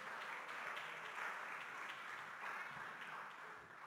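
Steady applause from a crowd fills the whole stretch, a dense crackle of many hands clapping at once that holds a fairly even loudness and fades slightly at the end.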